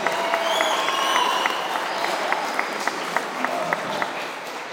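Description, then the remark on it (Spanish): Steady audience applause for a contestant from El Salvador in a popular-song competition, a dense wash of clapping with a few sharper individual claps standing out, sustained and fairly loud throughout without any speech. “El aplauso entonces para Christopher, nuestro participante de El Salvador.”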